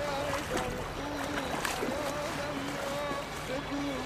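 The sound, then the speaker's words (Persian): A boat moves across the water with a steady, broad wash of engine and water noise that stays constant throughout, while voices talk faintly underneath. “مگر اینجا از این به بعد اینجوری قایق رد شه.”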